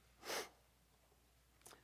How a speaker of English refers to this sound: And my wife will tell me, don't sniffle. Thank you, darling.